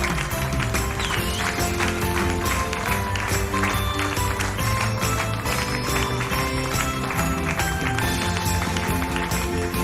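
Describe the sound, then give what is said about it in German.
A crowd in Bad Nauheim claps hands in a steady rhythm, a continuous run of sharp, even beats over a dense wash of music and crowd noise that stays loud throughout. “Sind wir bei Wette das oder was, dass ich so halb Stunde lang klatsche?”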